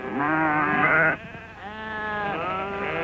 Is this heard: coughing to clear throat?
no